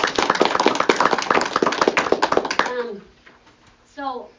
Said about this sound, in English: So I just want to give those that are here with us tonight a big round of applause.